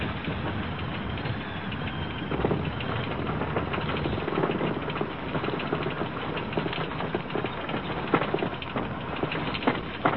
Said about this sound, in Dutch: En nu zet ik de motor af en ga ik in een glijvlucht al cirkelend langzaam naar beneden.